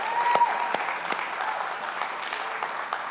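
An audience claps steadily in applause for the people who helped set up, work and put back together an event, a dense, even patter of many hands with a few sharper individual claps standing out, sustained at moderate loudness for a few seconds.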